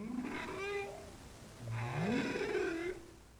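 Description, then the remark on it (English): Two bowhead whale calls recorded with an underwater microphone off Utqiagvik, from whales migrating north. Each is a moaning tone with buzzy harmonics. The first wavers briefly; the second sweeps upward before settling into a longer, louder warble, with no talking. “These calls, recorded with an underwater microphone, were from whales swimming there last month.”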